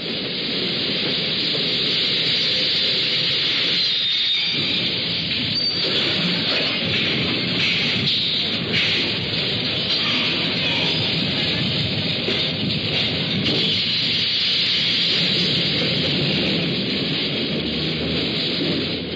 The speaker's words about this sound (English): The subway rises from the tunnel and stops at 135th Street.